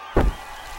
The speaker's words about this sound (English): What's that noise? They're lighting fireworks.